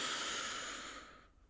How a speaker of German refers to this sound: Wir nehmen zwei, drei normale Atemzüge. Und atmen noch einmal tief ein und halten oben.